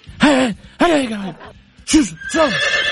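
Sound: horse neighing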